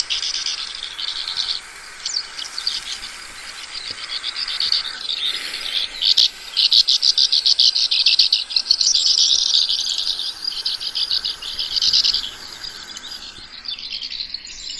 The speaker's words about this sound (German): Ja, es ist dieses typische Schwalbengeschwätz, was man auch von anderen Arten kennt.